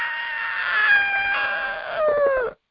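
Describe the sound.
A voice imitates a woman screaming: one loud, high-pitched wail held for about two and a half seconds, dipping in pitch at the end before stopping abruptly.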